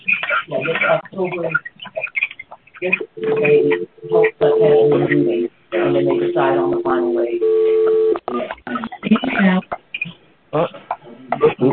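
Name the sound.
telephone dialing tones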